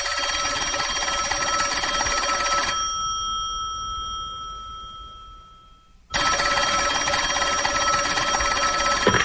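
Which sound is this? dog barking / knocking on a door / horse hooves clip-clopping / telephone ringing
telephone ringing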